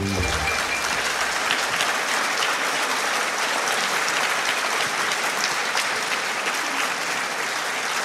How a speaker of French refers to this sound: Jean-Marie Gustave Leclésio, mesdames et messieurs, vous pouvez l'applaudir pour la première fois ici à l'Opéra de Nice.